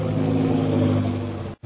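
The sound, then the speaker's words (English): A new bomber plane arrives, its engines droning loudly and steadily, a deep layered hum that holds without change before cutting out abruptly for a moment near the end. No one speaks. “That is one of our new bombing planes.”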